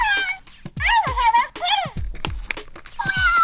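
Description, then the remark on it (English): A cat called Hello Kitty meows several times in quick succession, drawn-out rising and falling cries, with a few soft thumps and clicks between them. “And that's Hello Kitty.”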